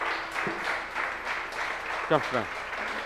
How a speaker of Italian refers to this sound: Grazie. Un applauso. Dai.